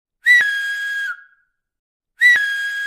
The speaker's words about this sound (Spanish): Y sin dejar el Pirineo, si alguna vez estáis por algún bosque y de pronto escucháis silbidos, os aconsejo que les hagáis mucho caso